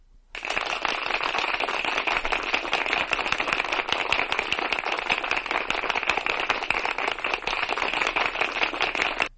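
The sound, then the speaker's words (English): A crowd claps steadily, a dense, even wash of rapid hand claps that starts abruptly and holds at a fairly loud, unchanging level for about nine seconds, with no voices. “I want to do is give you a resounding round of applause.”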